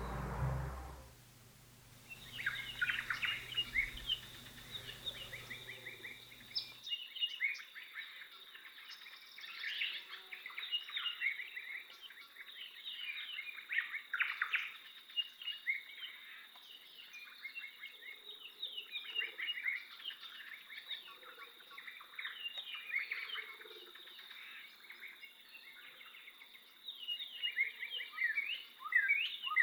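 Dense, continuous chorus of bird calls and chirps in an open outdoor setting, from the Sanctuary Island East soundscape in a nature app, with a steady high insect-like whine beneath; a low rumble fills the first few seconds before cutting away.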